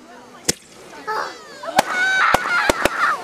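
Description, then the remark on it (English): At night, fireworks go off in a quick series of five sharp, loud cracks at irregular intervals, with high warbling, whistling tones rising and falling between the bangs. “Are you worried that it's gonna make a bang noise?”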